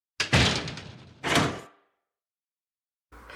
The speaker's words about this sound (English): And then we hear a door open and close, and another character enters the scene. It's Harry, but this time he's not wearing his mask.